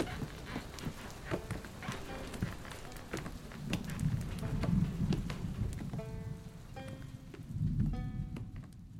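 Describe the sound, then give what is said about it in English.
Steady rain falls with a dense hiss and low rumble, scattered sharp taps and drips throughout, and thin whining tones rising over it near the end. No one speaks. “The rains must have rejuvenated them.”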